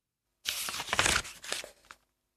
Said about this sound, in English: Put it on the table with the fold at one side. Draw a tree on the paper. Cut it out.